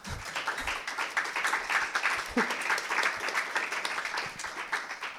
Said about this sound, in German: Jetzt können wir nochmal klatschen.